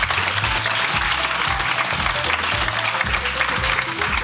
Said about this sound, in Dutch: En natuurlijk ook, ja, applaus.